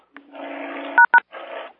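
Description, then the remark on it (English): Two short, loud keypad tones beep in quick succession as someone dials a phone number to call a person into a meeting, set against a steady buzzing line noise before and after. “Who can give him a call immediately?”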